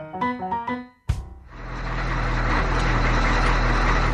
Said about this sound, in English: Fifth of January 2018. It's about 6 p.m. in the evening and I'm on Dublin bus.